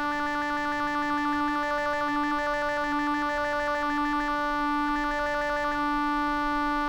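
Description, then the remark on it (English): A synthesized electronic effect, made after scanning a vowel panel and a formant panel, of steady tones with a rapid pulsing flutter and a repeating stepped pattern of higher beeps, loud and alone, evoking a flashing strobe light. “All right, let's get the flashing strobe light.”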